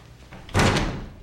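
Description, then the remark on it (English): A door swings shut with one solid thud that rings briefly and fades, preceded by a quiet room hum. No one speaks. “Shut the door.”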